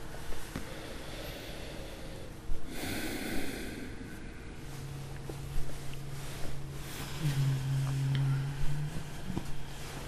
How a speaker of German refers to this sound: Und dann immer wieder bewusst tief ein- und ausatmen. Also auch ganz tief, so tief wie es irgend geht.